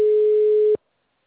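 A single steady electronic telephone ringing tone, a pure pitched beep lasting under a second, clear and moderately loud, then abruptly cutting off into silence. No voices.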